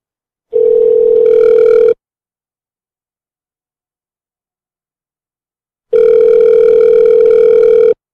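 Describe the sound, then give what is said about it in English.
Two steady electronic ringback tones from a phone line, each lasting a couple of seconds with a long silent pause between them, loud and clear with no one answering or speaking. “She don't pick up the second time.”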